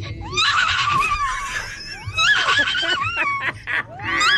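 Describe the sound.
A girl's voice imitates a horse as an animal impression, whinnying in high, wavering, warbling bursts that rise and fall over several seconds, loud and breathy with shaky trills, and no other talk.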